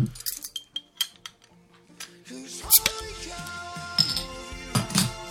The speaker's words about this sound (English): It's a 500 milliliter bottle. And yeah, here we go. Bottle opener, please.